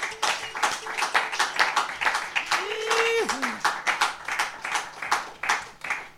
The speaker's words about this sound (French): on peut encore les applaudir pour ce mélange autour de Louise Labbé et des poèmes